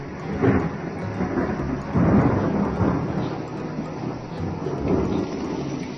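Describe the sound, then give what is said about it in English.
Steady crackling sizzle of bacon frying in a pan, a dense hiss that sounds much like rain, with a few deep rumbling swells rising beneath it. “And of course, frying bacon.”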